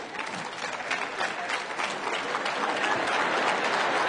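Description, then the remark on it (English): A church audience claps steadily for about four seconds in response to a pastor's remark during a sermon, a dense, even wash of many hands that holds at a fairly loud level, with no one speaking over it. “Are we really clapping about that?”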